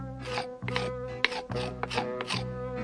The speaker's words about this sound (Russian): И стал Шарик что-то на печи углем рисовать.